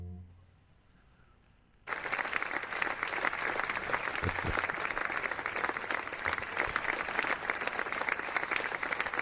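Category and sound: sound effect, applause sound effect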